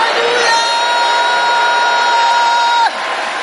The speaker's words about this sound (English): Won't you join in shouting hallelujah?